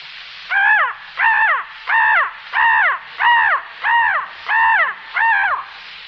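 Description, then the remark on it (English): A human voice imitates a crow, giving eight loud, harsh caws in a steady, evenly spaced rhythm, with no other sounds between them. “And one of the most destructive of all birds, the crow.”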